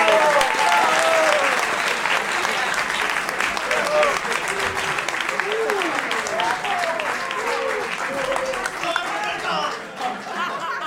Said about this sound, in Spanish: Un aplauso